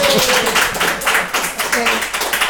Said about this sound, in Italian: Un applauso.